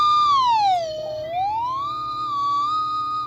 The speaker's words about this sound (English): The trolley has a whistle.